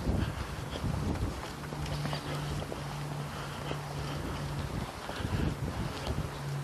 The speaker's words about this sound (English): Okay, we turn east. Wind is coming from the north, so with any luck at all, I'll get a bit of a buffer here because there's trees and fences and houses and everything in the way.